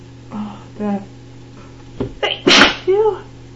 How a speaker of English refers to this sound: Oh, I just hope the damn sneezing stops soon.